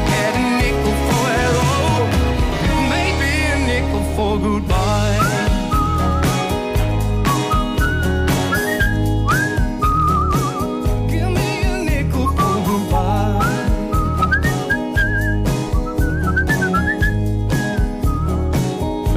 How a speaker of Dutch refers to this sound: Mee fluiten natuurlijk.